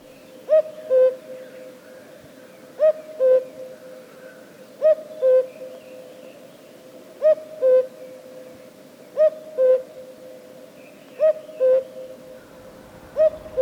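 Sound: common cuckoo calling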